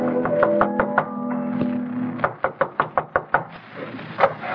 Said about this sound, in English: There's a knock at the back door.